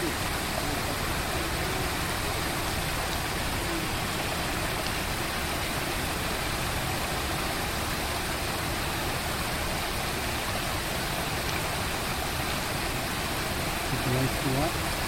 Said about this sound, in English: It's a lot of water. So beautiful.